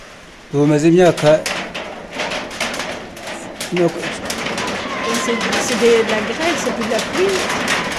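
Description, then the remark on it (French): Hail clatters down in a dense, irregular patter of sharp ticks and taps that continues steadily throughout, while a voice speaks in short bursts over it. “C'est de la grêle, c'est plus de la pluie.”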